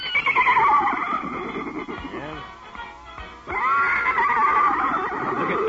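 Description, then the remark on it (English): A horse whinnies loudly, a long wavering neigh that fades briefly, then rises again into another drawn-out whinny, as it races across parade grounds after a band playing music. “Why, that horse is racing across the parade grounds after the band.”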